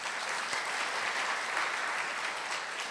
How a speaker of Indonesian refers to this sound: Tepuk tangan buat Tuhan dong.